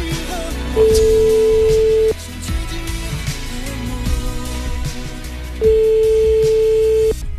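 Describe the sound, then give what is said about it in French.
Two long, steady ringback tones from an outgoing phone call to a mobile phone, each lasting about a second and a half with a pause between, sounding over quiet background music. “Et appelez-moi Louis XIV s'il vous plaît.”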